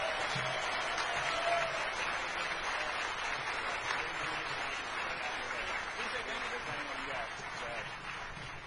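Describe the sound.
Audience applause for a competition team receiving black badges fills the whole stretch, a dense, steady wash of clapping hands that stays loud and even throughout, with faint voices mixed into the crowd.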